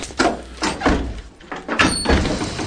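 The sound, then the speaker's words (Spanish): Several firm knocks on a door, about five hollow raps in an uneven rhythm, fairly loud, with no voices. “Llaman a la puerta.”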